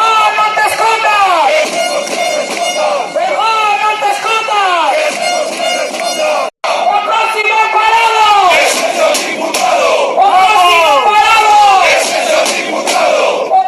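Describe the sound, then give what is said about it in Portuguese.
A crowd of Vestas wind-turbine factory workers from Viveiro protests in front of the Parliament of Galicia in Santiago de Compostela, demanding a solution to keep their jobs; many voices shout and chant loudly and continuously, rising and falling in rhythmic waves of yelling, with a brief cut to silence midway before the chanting resumes. “E os traballadores de Vestas, da fábrica de aeroxeradores de Viveiro, pola súa parte, foron hoxe a Santiago de Compostela e manifestáronse diante do Parlamento de Galicia para exixir unha solución que permita conservar os seus postos de traballo.”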